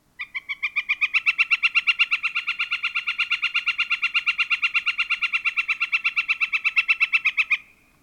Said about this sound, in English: And the northern flicker's loud kek, kek, kek, kek, kek, kek.